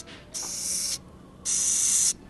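Two sharp, breathy hisses from a Madagascar hissing cockroach as its stomach is rubbed, each lasting about half a second, with a short pause between; fairly loud, like bursts from an aerosol spray can.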